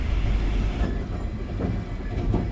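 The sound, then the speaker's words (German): A train rumbles steadily along the rails, a deep continuous roar with a few brief metallic clacks rising out of it, loud, with no voices. “Gerade im Zug treffen Sorgen und Freude direkt aufeinander.”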